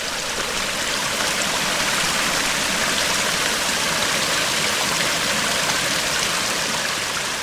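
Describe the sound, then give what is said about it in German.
Steady rushing water of the Russensky Lom river, south of the town of Ruse, where it has cut deep into a limestone-sandstone plateau, fills the whole stretch: a dense, even wash of flowing river noise with no breaks, moderately loud, and no voices. “Der Fluss Russensky Lom südlich der Stadt Russe hat sich tief eingeschnitten in ein Kalksandsteinplateau und löcherige Felswände hinterlassen.”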